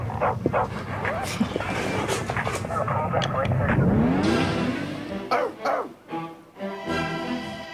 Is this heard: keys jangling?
no